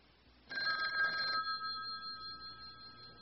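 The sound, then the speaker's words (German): An office telephone bell rings sharply in a single burst starting about half a second in, then its metallic tone lingers and fades over the next couple of seconds. No one speaks. “Ah, das Telefon.”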